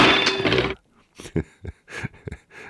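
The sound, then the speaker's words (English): A sound effect of someone falling: a loud, dense crash lasting under a second, followed after a short pause by a series of breathy, panting bursts. “Is it obvious to you yet that I only have one sound effect of someone falling?”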